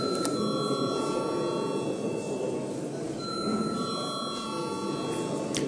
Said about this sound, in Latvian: Paldies, lūdzu zvanu.